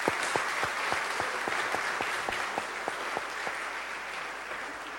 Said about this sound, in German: an dieser Stelle vielleicht schon mal einen Applaus für diese großartige Band.